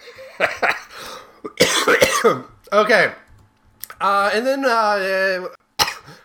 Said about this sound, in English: Nice cough there.